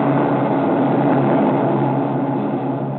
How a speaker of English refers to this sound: Those are Japanese reconnaissance planes